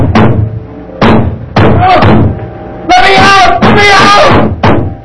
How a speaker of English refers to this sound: I went to the door and banged on it.